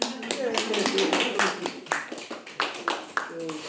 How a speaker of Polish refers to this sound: Klaski do Panu Bogu.